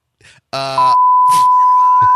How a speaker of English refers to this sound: Why did you beep me?